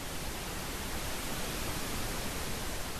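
A steady, soft hiss of pink noise, a continuous shh-like wash with even loudness throughout and no voices or other sounds.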